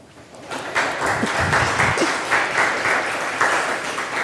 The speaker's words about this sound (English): Do you have any questions? And a warm applause for you, maybe first before we start with the questions. Thank you very much for your talk.